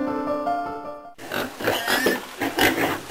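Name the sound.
pig grunting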